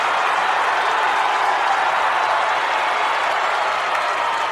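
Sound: wrestling arena crowd cheering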